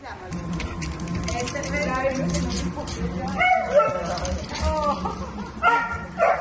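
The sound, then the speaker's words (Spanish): Two excited border collies, Cata and Togo, whine and whimper in high, wavering cries, breaking into short yips and barks on a hospital rooftop, while people talk underneath throughout. “Cata y Togo, sus dos perros border collie, a los que adoptó hace años.”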